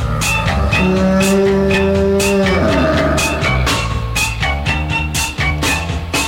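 A single drawn-out cow moo rises over a loud, bouncy musical backing with steady drums, holding a steady pitch before sliding down and fading into the beat.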